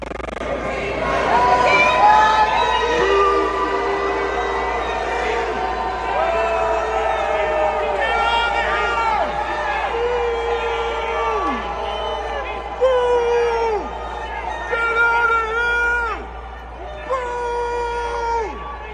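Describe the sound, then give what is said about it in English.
A loud crowd boos and jeers continuously at people as they walk in, many voices overlapping in drawn-out, sliding calls that rise and fall in waves throughout. “First, as they were walking in, you hear boos ringing.”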